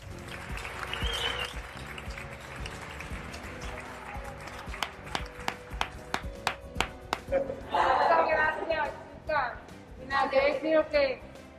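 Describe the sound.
A group of teammates applauds, loud separate claps building into a brisk, uneven burst, followed by excited voices and cheering mixed with further clapping.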